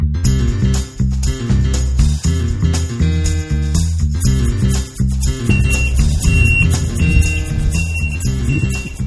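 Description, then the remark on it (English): High electronic beeps from a reversing dump truck delivering a load of rubber ducks at SeaWorld San Antonio's Castaway Cruise lazy river repeat in short, evenly spaced pulses, partly buried under loud, continuous music with heavy bass. “The beeping that you're hearing is the dump truck coming in to drop off a load of ducks.”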